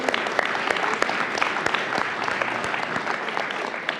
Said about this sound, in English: So we are really proud of our students from the BPA organization, so we should give them another round of applause.